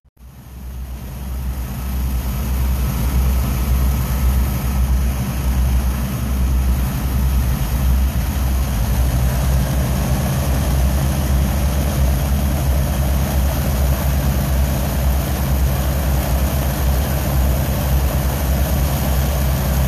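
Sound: aircraft engines running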